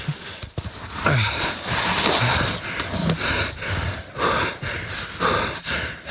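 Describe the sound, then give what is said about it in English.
A man who has just been pulled out of snow gasps and pants for breath in ragged, repeated heaves, fairly loud, with a steady rushing noise underneath and no talking. “So after he sees this guy breathing, I mean, it's all good.”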